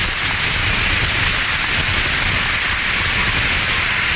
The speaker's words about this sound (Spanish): Eso, den un aplauso, por favor.